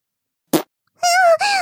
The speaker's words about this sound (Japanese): あ、あれ？おなら、漏れちゃった？おかしいな。すっきりするまで、いっぱい出しちゃったはずなのに。ふぃ、また。ケーキ食べすぎちゃったかな。